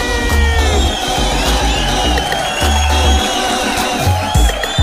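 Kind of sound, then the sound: crowd, crowd screaming and cheering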